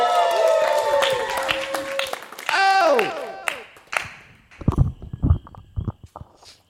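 A brief musical sting with sweeping, bending tones plays first, then an audience breaks into applause and cheering, with bursts of clapping and voices filling the room.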